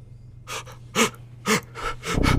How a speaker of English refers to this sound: Grimdek's eyes look up at Sandor's with fear and shock, his body futilely gasping for air.